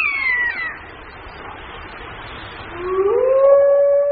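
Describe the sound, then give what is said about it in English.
A wolf pack howls in a chorus: a falling howl fades out, then after a quiet gap several long, rising howls swell together and hold steady, fairly loud, with no one speaking. “Howling, the wolf calls to arms, gathers the pack, and warns other wolves to back off.”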